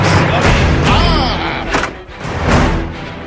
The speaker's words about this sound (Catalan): Obrim la porta junts. Però per quina obsessió? Una altra porta de l'Europarlament.